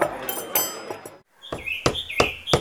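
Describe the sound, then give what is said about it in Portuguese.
A man hammers wood, building the fence of his new house in Nova Jambolane: sharp blows in a steady rhythm, pausing briefly before a second run of four evenly spaced knocks, with birds chirping throughout. “o pai da Anita está a martelar madeiras construindo a vedação da sua nova casa”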